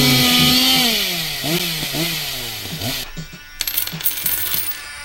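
Someone runs a chainsaw: its engine revs loudly, the pitch climbing and dropping in repeated bursts, then settles into a rougher, sputtering idle with scattered rattling clicks.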